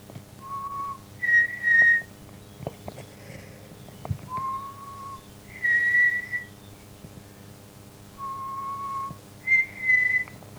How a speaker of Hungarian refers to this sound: Ilyen volt a füttyel.